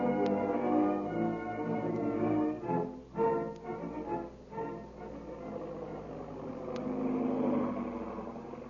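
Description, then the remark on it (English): A big black seaplane's engine drones steadily as it circles over a plantation house for a landing, a low rumbling hum with layered harmonics that dips briefly in volume and then swells back, no voices present. “At that very moment, the big black seaplane is heard over the mysterious plantation house, circling for a landing.”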